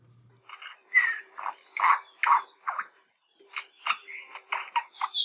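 An Akohekohe honeycreeper, a native bird of Maui about 7 inches long, mostly shiny black with feathers tipped in orange, silver and white, calls in two bursts of harsh, buzzy notes, a steady run of rough chirps that pauses briefly mid-clip before resuming, with a faint low hum underneath.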